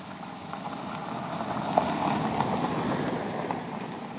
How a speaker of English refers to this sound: Lightning comes. The rain increases. And another car returns from the lake to its home.